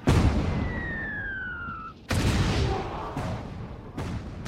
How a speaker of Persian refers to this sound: شلیک کنید. تمام سربازا شلیک کنید.